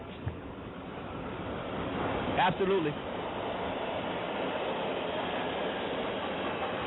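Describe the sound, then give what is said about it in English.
A subway train rumbles steadily throughout, a constant broad roar, while a person briefly says a single word over it. “…, you on the subway.”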